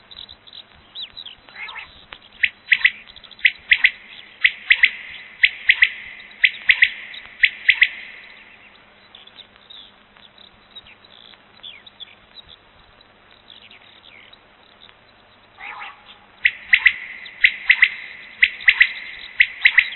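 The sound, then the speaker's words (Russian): A common quail calls nearby in an open field, giving short, sharp, liquid notes in quick triplets, repeated in bursts with quiet pauses between them and no voices. “Совсем рядом в поле кричит перепел.”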